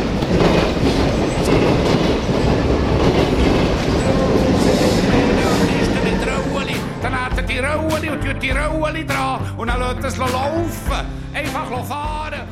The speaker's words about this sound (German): Jetzt brausen Loks und Züge im Minutentakt an ihm vorbei, am Gebäude, auf Schienen.